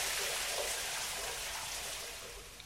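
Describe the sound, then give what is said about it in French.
Steady rain pours down in Abidjan in a dense, continuous, heavy hiss, with no voices, easing off only slightly toward the end. “La paix revient, les enfants jouent et se douchent sous la pluie.”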